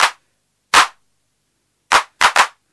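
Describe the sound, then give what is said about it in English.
Five loud, harsh hand-clap hits from a hand clap sound with its noise level knob turned up to 3 o'clock crack out on their own in an uneven rhythm. The last two come close together, and each is a sharp, noisy burst with a quick decay. “Much harder on the ears, clap sound. Now I'm turning up the noise level to 3 o'clock, so it's getting pretty loud.”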